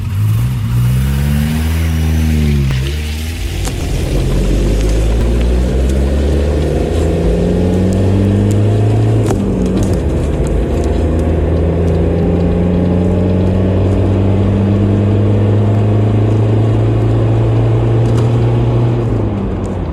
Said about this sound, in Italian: Luego tuve que salir con el coche y escuché una moto muy ruidosa. Ich bin mit dem Auto weggefahren und habe ein lautes Motorrad gehört.